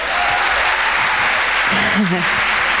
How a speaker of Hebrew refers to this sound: ואני רוצה להודות ללהקת הנשים הזאת, שנשרכת איתי מראש חודש אלול, מבמה לבמה. אנחנו כבר לא יודעות מה אנחנו שרות, מנגנות ואומרות, אתה, והקדוש ברוך אומר, די, עוד פעם אתם, די. אז כפיים אדירות.